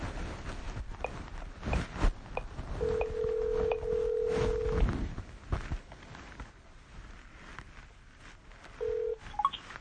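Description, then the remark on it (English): A phone call to a cell phone connecting: a steady ringback tone sounds for about two seconds, falls silent, then starts again, with faint clicks and muffled background noise throughout and no one speaking. “Calling cell phone.”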